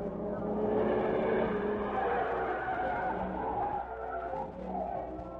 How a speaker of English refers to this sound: Look, car coming from meat company now. I hope this is it, Cato. But wait till it comes through the gate, then we'll follow.